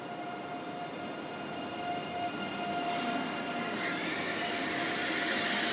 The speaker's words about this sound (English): Should be an ICE3, I think, which is for the uninitiated one of the more modern ICE trains, and it's the kind that will be run into Great Britain when they actually get their act together and sort it out. That's the train.